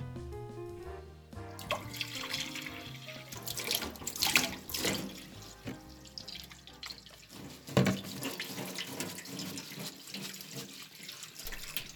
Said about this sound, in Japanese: あとは洗い物をして終わり。